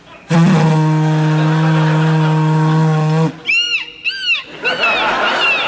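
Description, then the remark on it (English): A voice mimics the horn of a boat leaving Halifax with one long, loud, steady low blast, then switches to several high, swooping squawks imitating gulls crying. “Okay, this is a boat leaving Halifax.”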